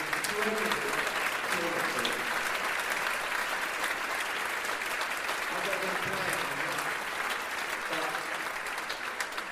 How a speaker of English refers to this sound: So I want to, and I think, really big round of applause for our governors who allow this to happen.